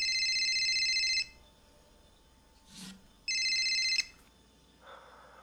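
A burner phone, not the regular one, rings twice with an unfamiliar bright, electronic trilling ringtone, each burst lasting about a second with a pause between, followed by faint rustling and a short muffled sound.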